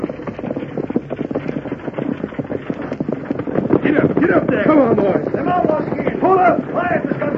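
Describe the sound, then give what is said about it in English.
Galloping horses pulling a stagecoach: a fast, steady drumming of hooves and rattling fills the whole scene, with raised voices shouting over the pounding in the second half. “Draw up them horses or get drilled, the both of you!”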